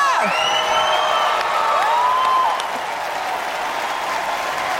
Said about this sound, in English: The crowd on their feet cheering on Venus as she climbs her way to the finish